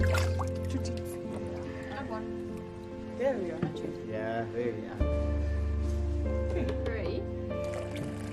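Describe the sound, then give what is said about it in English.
Milk pours and drips into a baby elephant's feeding bottle, a soft wet trickle with a few squishy splashes, beneath people talking and a steady low hum. “So when you are pouring this milk into the bowl, make sure you have to close the bowl because you can get sprayed.”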